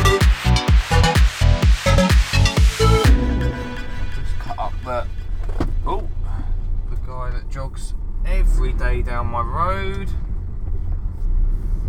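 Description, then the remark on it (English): A brief burst of rhythmic music gives way to a steady low rumble of a car engine and road noise from inside the cabin, with people talking over it. “It's a car share, and I'm not sure how it's going to go.”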